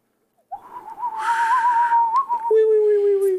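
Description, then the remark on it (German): A person whistles a wavering, sustained tone meant to imitate white doves, holding one pitch with slight warbles, then dropping abruptly to a lower steady note with a breathy hiss in the middle; recorded on Valentine's Day. “Was haben wir jetzt gerade gemacht für Geräusche? Ich weiß auch nicht. Ich habe keine Ahnung. Ich wollte weiße Tauben darstellen.”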